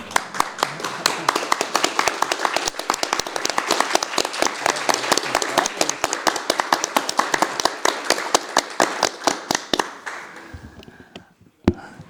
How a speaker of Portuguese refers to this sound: Com toda certeza, né, antes de os senhores receberem tanto a medalha como também o certificado, é importante também, acho que uma salva de palmas de cada um de nós, né, pelos trabalhos realizados de cada um dos senhores, né, à nossa sociedade.